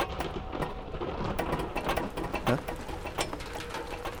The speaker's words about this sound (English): Is this rain? But I thought it was a fairy tale. Huh. It's lovely.